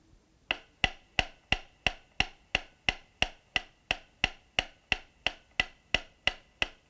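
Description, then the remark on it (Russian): A metronome recording for checking stereo speaker placement: rapid ticks, about three per second, heard only from the left loudspeaker, evenly spaced and steady. Each is a sharp, bright click with a short ringing tail, repeating alone with no voices. “Для этого мы передаем запись метронома. Частые удары вы услышите только из левого громкоговорителя.”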